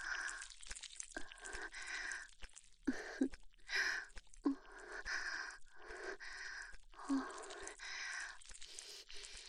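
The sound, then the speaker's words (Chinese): A woman pants, with breathy gasps and soft voiced exhalations repeating in a steady rhythm, about one every second. “女喘息的声音很性感，我来吗？”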